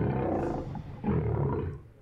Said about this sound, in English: Lion.